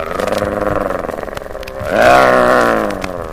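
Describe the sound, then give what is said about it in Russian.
A bear growls low and rumbling, pulsing steadily for about two seconds, then swells into a louder, sustained hum of pleasure that wavers and fades, fairly loud with no talking. “Мишке это так понравилось, что он даже зарычал и замычал от удовольствия.”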